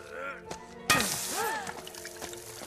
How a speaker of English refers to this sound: In the mine, Julian wields a pickaxe.